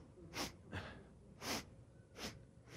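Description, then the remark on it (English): A voice imitates a grandfather sniffing on waking with Limburger cheese put on his mustache: four quick, breathy sniffs spaced at uneven intervals, fairly soft, with no talking in between. “And as they put it on there, as soon as he woke up, he started sniffing.”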